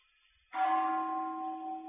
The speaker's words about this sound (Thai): รู้สึกไหมในเสียงหนึ่งครั้งเนี่ยสูงสูงต่ำต่ำสังเกตไหมเสียงอันแรกที่ได้ยินอ่ะมันทึบๆตรงเสียงที่ไม้ฟาดกับระฆังเนี่ยเสียงมันทึบๆแต่ถัดจากนั้นพอเอาไม้ออกแล้วเสียงมันใสขึ้นแล้วเสียงไม่คงที่รู้สึกไหมเสียงมันสั่นเสียงมันเกิดดับนะริ้วๆ